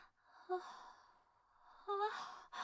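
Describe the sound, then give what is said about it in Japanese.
A big, drawn-out yawn: a voiced, rising groan that trails into a long breathy exhale, followed by a second yawn-like groan and a short sharp breath at the end. “うわ、何さ、でっかいあくび。”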